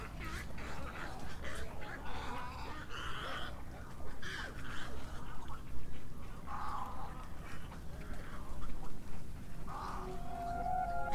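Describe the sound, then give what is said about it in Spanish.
A chorus of wild bird calls at the Los Flamencos Flora and Fauna Sanctuary in Camarones, La Guajira, honking and quacking-like cries overlapping continuously over a steady low outdoor rumble, some calls loud, others softer. “Este santuario ofrece de manera visible y audible la esencia de un espíritu libre y salvaje, el de las aves.”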